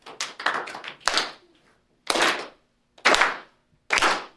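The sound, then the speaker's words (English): A group claps together before singing a chorus: a scattered flurry of claps first, then three loud, unified claps landing about a second apart in a steady rhythm, with no talking. “I'm no singer, but I'm going to kind of sing a chorus, and we're going to clap together first, right?”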